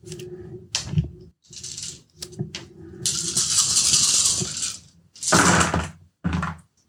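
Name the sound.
dice being rolled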